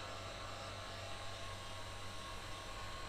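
A hair dryer blows steadily throughout, a constant whooshing hum with a low motor drone, even and unbroken, fairly soft, with no voices over it.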